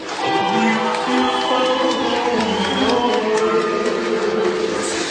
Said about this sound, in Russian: Вот сейчас дайте аплодисменты.